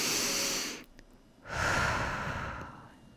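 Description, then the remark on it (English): A deep, airy inhale, a brief pause, then a long, steady exhale, like several people breathing together. Soft, with no talking. “Everyone take a deep breath.”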